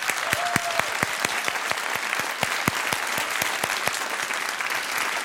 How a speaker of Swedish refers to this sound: Stort tack till publiken i Konserthusteatern här i Karlskrona. En stor applåd till er!